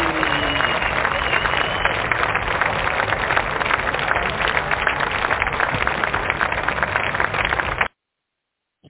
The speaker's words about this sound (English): We need some claps. You need some claps in there. We need some claps in there just to thank them. Oh, well, I guess so. We probably do. Wait a minute. Let me see if I got some claps for you. Clap on. Hey.